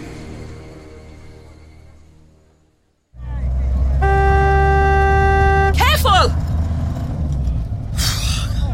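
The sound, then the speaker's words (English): A loud, sustained car horn blares amid heavy road traffic rumble, followed by squealing brakes and a sharp hiss; a voice shouts briefly as the chaotic street noise continues. “The traffic's gone mad and so have half the people.”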